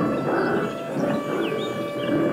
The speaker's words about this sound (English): Then, from somewhere in the trees, the wolves heard a growl.